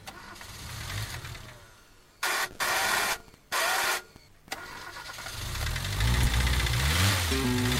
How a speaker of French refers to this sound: Allez, on va partir tout de suite en voiture. Focus sur l'épave en espérant qu'elle roule évidemment.